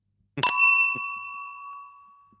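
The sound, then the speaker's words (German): Glasses are handled during a whisky tasting as whisky is poured: one sharp clink sets a glass ringing with a clear, bell-like tone that slowly fades over two seconds, followed by a softer second tap. “Na, warte mal, ich habe ja noch Gläser, genau.”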